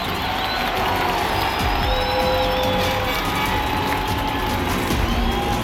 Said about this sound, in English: The two Mercedes racers scream down the course in fierce competition. Everyone in the grandstand is riveted to the drama on the track.